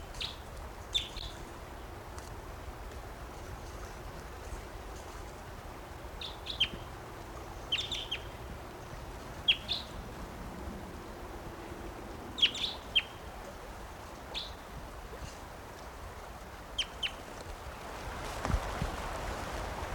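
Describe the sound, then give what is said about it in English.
A bird sings in short, high-pitched chirps, repeated every second or two at an uneven pace, over a steady low background rumble. No one speaks. “I'm recording that bird.”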